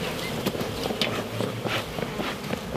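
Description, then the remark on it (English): A steady, dense hum of many honeybees at a hive opened by beekeepers moving its boxes, with occasional soft knocks and shuffling of handling noises mixed in; no one speaks. “Stops them swarming as much, because sometimes you get the old angry bees, especially midday, because that's when they're most active.”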